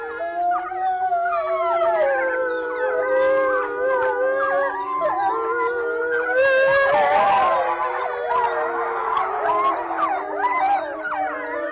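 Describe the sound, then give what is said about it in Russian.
A pack of wolves, four adults and four cubs in the Novosibirsk zoo, howls together after the zoo has closed in a loud chorus, many long wavering voices overlapping and sliding in pitch, growing busier and more ragged partway through, with no talking. “Конкретная пара, которая была записана, 4 взрослых животных и 4 детеныша в новосибирском зоопарке, они практически всегда выли после закрытия зоопарка”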